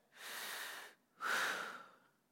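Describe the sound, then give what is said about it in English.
A person imitates the first breaths of a patient starting to breathe again after an hour and a half of resuscitation: two long, ragged breaths, a raspy in-breath followed by a louder, strained gasp that trails off, with no talking. “And their heart started and they started breathing.”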